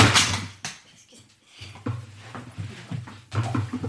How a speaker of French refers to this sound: Je tombe en bas de ma chaise. Bon, des choses qui arrivent.